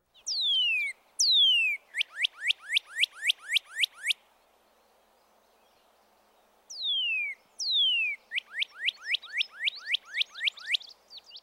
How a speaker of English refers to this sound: You can tell them apart, however, by listening for the radical up or down slurring in the cardinal's liquid whistles and the steadier pitch of the titmouse's slurred whistle. First, the cardinal.